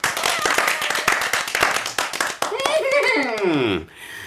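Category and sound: crowd, group applause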